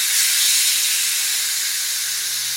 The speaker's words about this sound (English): If you're listening to that, that's not my guts. That's the spray. I would never trust anyone whose guts make that noise. Sorry, that's my spray for the oven.